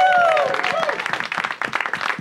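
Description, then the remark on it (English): An audience breaks into loud, sustained applause for the venue Dynasty Typewriter, dense overlapping claps filling the whole stretch, with a brief whoop or cheer riding on top at the start. “Let's hear it for Dynasty Typewriter.”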